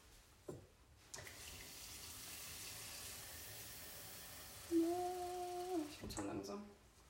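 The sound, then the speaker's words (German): Water streams steadily into a cooking pot, topping up the mixture to be boiled, for about five seconds, a continuous splashing rush whose pitch rises slightly as the vessel fills, then it stops. “Genau, wir gießen das Ganze jetzt mit Wasser auf und kochen.”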